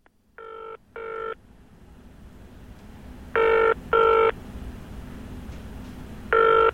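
A phone rings on the line in three double bursts, a call to Lightways, a lighting supplier, each pair of short harmonic tones separated by pauses, heard clearly over a low background hum with no talking.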